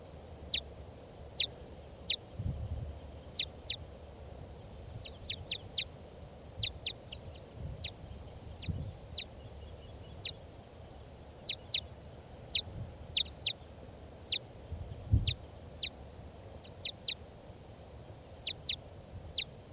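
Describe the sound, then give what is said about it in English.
A wild bird flying over toward a truck gives a steady series of short, sharp, high calls, repeated roughly every half second to second, over a low outdoor rumble with no talking. “That's the bird flying over toward the truck and the other captives.”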